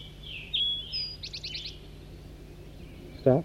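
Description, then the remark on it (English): A big flock of red crossbills in flight in a forest around 7 o'clock, to the south: quick, high chips and a rapid run of about five repeated notes, then a short burst of lower, buzzy calls near the end, all fairly faint with no talking. “And I hear a big flock of crossbills down to the south.”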